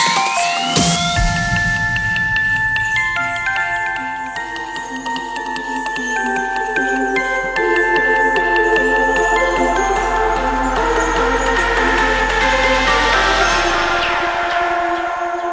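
Bright jingling sleigh bells shimmer steadily through a loud, bass-heavy electronic Christmas track with sustained synth chords, no voices, building slightly in intensity toward the end.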